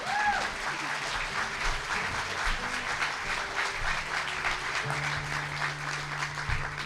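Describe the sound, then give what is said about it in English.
An audience claps steadily for a speaker, the author of the book Digital Healing and a former KUNC commentator, in a dense, sustained round of applause that stays at an even level for several seconds, with faint low tones and murmurs underneath. “So if you remember him, give him a round of applause right now.”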